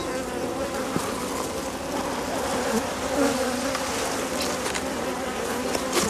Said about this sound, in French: Donc sur un cadre il y a à peu près 2500 abeilles.